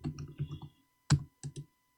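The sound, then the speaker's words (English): Rapid laptop keyboard typing, a run of quick clacks in the first second followed by a sharp louder strike and two short bursts of keys after a pause. “imagine if Dan had a mechanical keyboard. Man, that would be loud. It is loud, man.”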